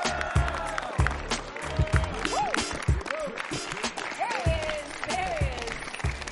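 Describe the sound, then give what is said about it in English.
Audience applause welcoming guest Eric Rowe rolls on steadily for several seconds, a dense, loud wash of clapping with rising whoops and cheering voices breaking through at intervals. “Love that applause so much.”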